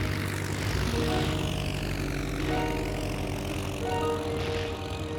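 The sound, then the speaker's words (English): A propeller airplane engine drones steadily and loudly throughout as the plane takes off, its low harmonic hum wavering and shifting in pitch as if straining, with no voices present. “The airplane he was given, the slop with flying popsicle, sputtered and coughed and barely hummed off the ground.”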